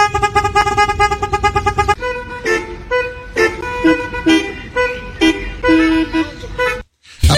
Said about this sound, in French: Ouais, on utilise beaucoup le klaxon à Paris. Ce serait un peu mélodique comme ça.